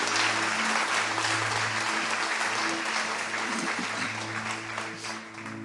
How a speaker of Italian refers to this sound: Facciamo un applauso al Signore per favore. Alleluia.